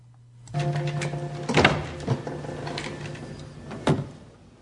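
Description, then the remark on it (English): A door opens with a steady mechanical hum and a few sharp clunks and scrapes, moderately loud, with no voices, as a nurse comes in with an empty wheelchair. “House looks up expectantly as the door opens, but it's just a nurse with an empty wheelchair.”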